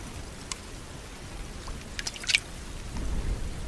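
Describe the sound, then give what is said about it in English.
A few soft wet drips and tiny squelches of condensed fog water trickling along grooves on a beetle's wing cases toward its mouth as it does a headstand facing into the wind, scattered irregularly over a quiet, low background hum with no voices. “Microscopic bumps on its wing cases direct the water to grooves that channel it towards the mouth.”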